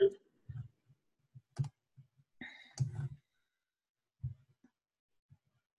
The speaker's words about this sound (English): Okay, so see, I'm clicking on, something didn't work. Hold on, I'm clicking, and then not paying attention. Oh, maybe now.